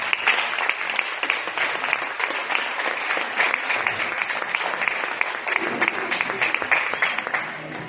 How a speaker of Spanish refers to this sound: Así que le damos la gloria al Señor en este momento, y de paso le vamos a dar un aplauso a Jesús.